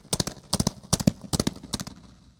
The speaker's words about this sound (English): These reverberations could even turn the sound of hooved feet into a herd of galloping horses.